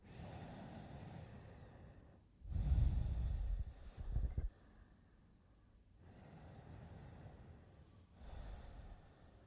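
Slow, deep breathing while sitting comfortably at the start of a guided meditation: long airy inhales through the nose alternating with fuller exhales, including a stronger, louder breath out near the middle, with no talking.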